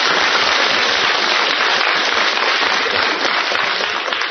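Steady, dense audience applause with many hands clapping at once, a loud continuous crackling wash that holds even for the whole stretch, with no voices over it.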